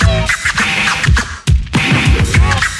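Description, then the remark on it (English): Rapid turntable scratching by a DJ, loud, with quick back-and-forth record strokes sweeping up and down in pitch over a steady bass-heavy beat, with no voices. “Now make the record burn.”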